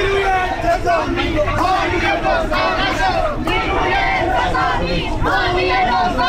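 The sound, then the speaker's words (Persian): Farmers from eastern Isfahan and their families chant slogans loudly and continuously during a Wednesday protest march, many voices shouting together in a rough, rising rhythm with no pause for the whole stretch. “کشاورزان و خانواده هایشان هم شعار دادند.”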